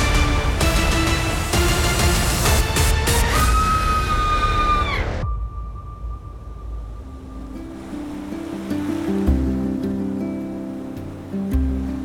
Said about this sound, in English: High above the crashing waves and definitely not shark-infested waters. Definitely not.